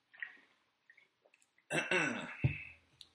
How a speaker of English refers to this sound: So, take a quick swig of water.